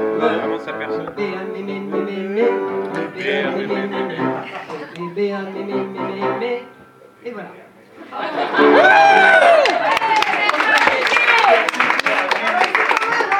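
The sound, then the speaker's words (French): Voices sing a goguette song for about seven seconds, then after a short lull an audience breaks into loud, sustained applause mixed with whoops and cheering that lasts to the end. “N'applaudissez pas, elle va prendre la confiance.”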